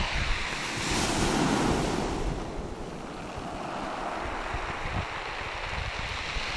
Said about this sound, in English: Hello, can you hear that? I'm on a beach in the north of Norfolk. One of these big pebble beaches thing. And the noise that the pebbles make as the sea sort of rolls over them is really nice.